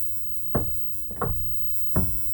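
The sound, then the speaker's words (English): Three distinct knocks on a wooden door as a secret signal, evenly spaced about two-thirds of a second apart, each a dull, resonant thud against a low background hum. “Hitting on the wood? They'd hit on the door like that.”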